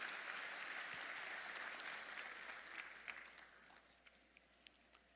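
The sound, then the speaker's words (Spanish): An audience applauds the Lord with dense, steady clapping that gradually thins out and fades, leaving a few scattered individual claps near the end. “Un aplauso al Señor, por favor.”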